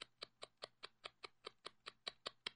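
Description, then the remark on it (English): A clock ticks quickly and steadily, about a dozen crisp, evenly spaced clicks, heard alone with a faint low hum underneath and no voices. “And sure enough, the clock was ticking.”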